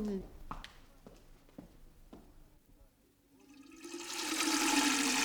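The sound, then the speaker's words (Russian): A few sharp metallic taps, then water pours from a barrel into a tin watering can, swelling into a loud, steady rushing splash, like a small waterfall. “Вода лилась из бочки в жестяную лейку с таким славным шумом, будто это был маленький водопад.”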